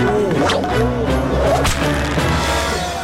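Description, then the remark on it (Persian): A guard tries to lash a queen with a whip: several sharp whip cracks snap out loudly at uneven intervals over a dense, busy background of overlapping voices and tonal noise. “یک محافظ کوشش کرد ملکه با شلاق بزنه که یک غلام شلاقش از پیشش گرفت.”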